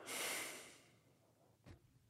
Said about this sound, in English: He plops down on the bed. I take my place on the futon across the room. It's not so far from the bed. I can hear him breathing.